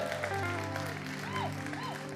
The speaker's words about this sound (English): I appreciate our worship team. Give them a clap, will you?